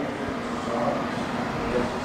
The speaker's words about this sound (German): Laut schallt der Verkehr durch die offenen Fenster.